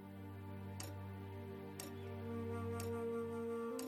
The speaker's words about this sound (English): The tick-tock of the clock shows clearly the passage of my life.